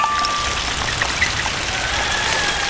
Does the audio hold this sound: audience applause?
no